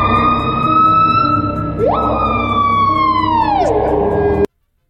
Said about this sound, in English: What is that? That is a piha. I don't know. It's a bird of some sort, I'm assuming.